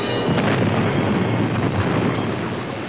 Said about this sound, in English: Then the Star Destroyer exploded into 1,000 pieces. Light and sparks flew everywhere and debris pelted the Falcon.